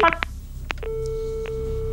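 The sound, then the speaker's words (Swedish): A phone line clicks off with a few sharp clacks as Breivik hangs up in the middle of a call with the police, then a steady electronic tone hums on alone, like the signal heard after a call is cut off. “Återigen legger Breivik på midt i samtalet.”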